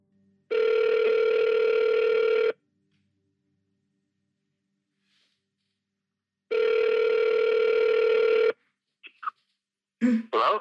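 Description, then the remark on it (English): An outgoing phone call's ringback tone: two long, steady electronic rings, each about two seconds, separated by a pause of silence, followed by a brief voice answering at the very end. “I phone him immediately.”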